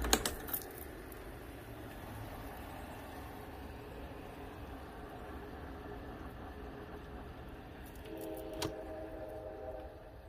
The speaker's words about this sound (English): Now, and there's a train blowing in the background. Let me turn this off so you can hear it.